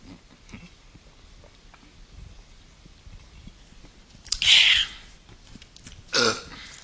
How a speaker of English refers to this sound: He keeps stopping and belching and drinking stuff